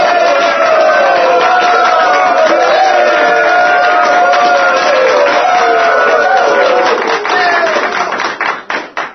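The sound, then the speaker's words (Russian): A large crowd cheers and shouts hurray in a loud, continuous roar of many voices, with scattered claps near the end before the sound fades out. “Татьянам и студентам всем ура!”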